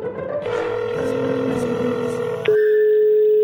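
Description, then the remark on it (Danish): A steady electronic telephone tone of an outgoing call sounds over a bed of background music, then cuts to a single loud, sustained ringback tone at the end. “Så ham giver jeg lige et kald, og så spørger jeg lige, hvad han tænker.”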